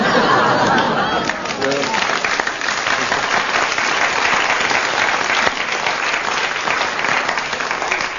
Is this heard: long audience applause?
yes